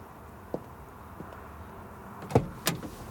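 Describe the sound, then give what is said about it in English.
A truck door clunks, followed moments later by a second sharp slam, with faint shuffling and a soft bump earlier as someone climbs into the passenger side; fairly quiet, no talking. “You allow a small smile and nod at me, hopping into the passenger side.”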